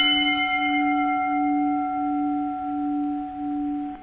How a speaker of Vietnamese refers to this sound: Một tiếng chuông thong thả ngân lên.